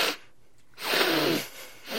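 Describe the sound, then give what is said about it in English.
Two sharp, breathy sniffs drawn in through the nose, fairly loud, separated by a short pause, with a third starting at the end. No talking. “So I was just sniffing in through my nose, trying to make it look like I wasn't pleading.”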